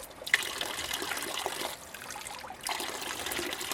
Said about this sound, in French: Et c'est à cette fontaine-là que t'as l'eau. Elle coule tout le temps.